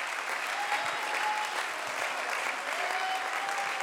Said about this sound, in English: Come on, let's clap our hands and praise him right now. Aplauden sus manos y alábelo.